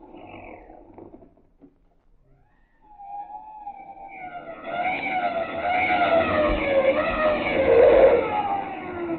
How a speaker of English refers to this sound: My word, sir. The police didn't lose much time. The car's pulling up in front of our house.